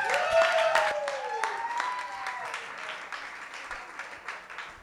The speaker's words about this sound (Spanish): Fuerte el aplauso